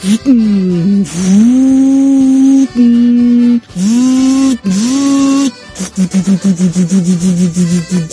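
A voice imitates a struggling, misfiring old Jeep engine stuck in mud, droning and revving in long rising and falling bursts, then breaking into a rapid stuttering sputter at the end, loud.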